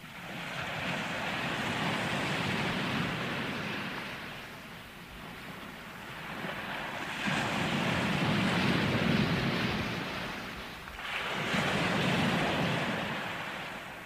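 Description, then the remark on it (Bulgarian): Broad washes of sea waves around a ship sailing on the open sea surge and recede in slow swells, roughly three big rushes, with a steady windy roar beneath and no voices. “Той се качил на един кораб, с него и екипажът му, и потеглил в открито море.”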